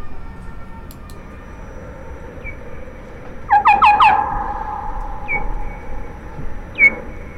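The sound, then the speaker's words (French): Bats let out a quick burst of about four shrill, harsh chirping cries as one bat refuses to accept an intruding bat, followed by two isolated squeaks a moment apart, all over a steady background hiss. “Alors, dans ces conditions, il y a des réactions qui peuvent être bruyantes, c'est-à-dire qu'une des chauves-souris n'accepte pas l'intruse, et on a des cris.”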